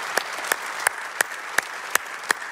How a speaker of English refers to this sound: And so by applause, would you help me, as we are one church in many locations, just welcome each other. Would you do that? Just by applause, welcome all the campuses.